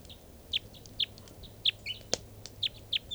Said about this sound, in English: One of the birds is perched on the bird's cages now. Stop. This is one of the birds.